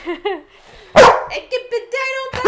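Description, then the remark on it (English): A dog lets out short yips, then a loud sharp bark, followed by whiny, drawn-out vocalizing and another bark at the end. “Don't talk to me like that. Down, please.”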